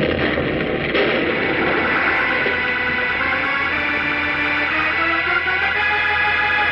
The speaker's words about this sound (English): As Superman wrenches the control dial from the rock wall, a terrific explosion, seeming to start somewhere deep inside the massive concrete oven on which the globe stood, erupts and blows the entire peak of the mountain toward the sky